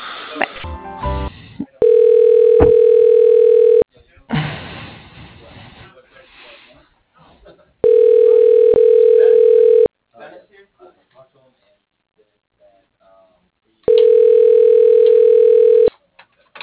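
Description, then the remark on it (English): A telephone line ringing tone while a call is transferred to voicemail: three steady, mid-pitched two-second tones separated by gaps of several seconds, with crackly line noise and faint clicks in between. “If you can go ahead and patch me through to the voicemail, I'd really appreciate that.”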